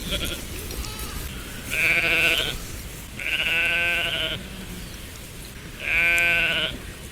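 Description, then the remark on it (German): A sheep bleats three times, each call a loud, wavering baa lasting about a second, separated by short pauses, with no other voices. “aber bei Schafen, denn eins dieser Schafe hat tatsächlich eine Stimme, die mich an einen alten Freund erinnert.”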